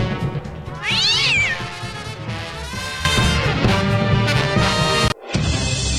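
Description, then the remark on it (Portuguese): A cat yowls loudly and up close, a drawn-out wailing cry with rising and falling pitch, continuing for several seconds before a brief abrupt cutoff and a final sustained yowl. “Solta o rabo do gato!”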